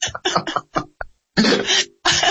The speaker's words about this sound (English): I was choking on air as I was listening to you. I'm sorry.